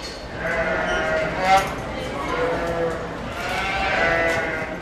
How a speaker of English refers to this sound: Sheep and goats pleading for their dinner here in the small livestock barn.